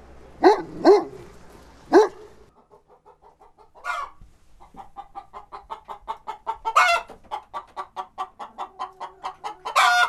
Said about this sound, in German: Das hier sind Anton und Emma, zwei Berner Sennenhunde.